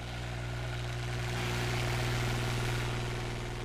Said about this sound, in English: The engine sits on a trailer and is attached to two fuel tanks